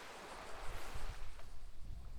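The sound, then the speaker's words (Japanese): A steady wash of ocean waves, a broad hissing roar with a low rumble that swells and eases unevenly over a couple of seconds, with no voices. “ええ、え、潜る海にですか。”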